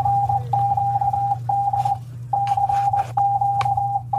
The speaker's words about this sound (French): Il ne peut pas ne pas avoir entendu le code CQD qu'il diffusait en morse.